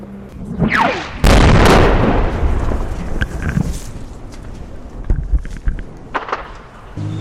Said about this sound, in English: Explosions were heard in different parts of the city throughout the day.